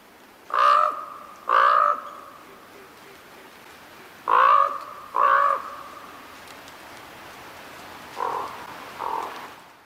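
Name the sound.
common raven calls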